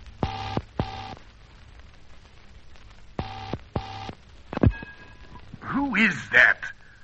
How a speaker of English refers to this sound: Don't be a darned fool and stop ringing the phone.